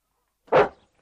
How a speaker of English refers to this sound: Oh, a dog. Not a dog, Watson. Pompey is the prince of the local draghounds. No very great flyer, but a staunch hound on the scent.